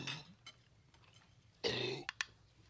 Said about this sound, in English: Oh, he's just yakking on a bone. He got it up. He's all right now.